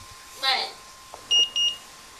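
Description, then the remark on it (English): A home security alarm panel gives two short, clear, high-pitched beeps in quick succession, fairly loud, following a brief warbling electronic chirp, as the alarm is armed with no entry delay. “So now what I'm actually going to do is I'm actually going to arm the alarm on no entry delay so that we can show you how this works.”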